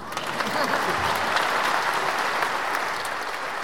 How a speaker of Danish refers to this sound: Nu klapper jeg lige.